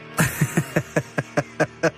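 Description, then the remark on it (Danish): A heavy metal recording: a fast, even run of about ten loud, punchy guitar-and-drum hits over a sustained distorted tone, with no voices. “Ja, skud ud til Sune, Krølle, Dildo og Jesper, som var dem, der introducerede mig for heavy metal, da jeg gik på efterskole.”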